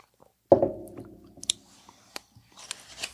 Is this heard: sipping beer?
yes